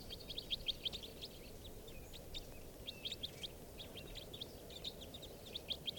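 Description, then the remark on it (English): A flock of type 4 red crossbills gives repeated short, high chip calls in scattered bursts throughout, fairly faint over a steady low rumble of background noise. “I hear some type 4s now.”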